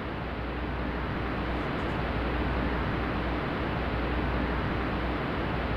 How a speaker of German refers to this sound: Wir gucken uns jetzt erstmal das pinke Rauschen an, beziehungsweise hören uns das an.